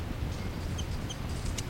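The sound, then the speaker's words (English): A bird, 3-3, gives a brief chitter call: two quick, high, thin chirps a moment apart, then a sharp click, all fairly soft over a steady low rumble. “up close to the birds here. That's 3-3 chitter, 5-9 response.”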